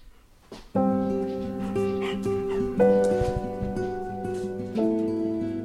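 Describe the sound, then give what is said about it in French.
A dog named Yellow whines in long, drawn-out tones that shift pitch every couple of seconds, with a few short yips mixed in, fairly loud. “Yellow, qu'est-ce qu'il veut ce chien?”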